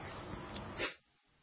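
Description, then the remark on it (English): A single muffled sneeze, a stifled, breathy burst of noise that swells briefly and cuts off abruptly into near silence. Fairly quiet, with no talking. “Having to muffle the sneezes.”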